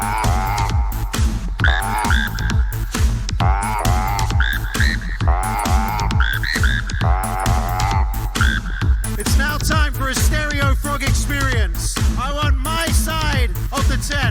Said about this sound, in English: That's right, turn the volume all the way up on your phone, all the way to max. Tap those frogs, let me hear them frogs.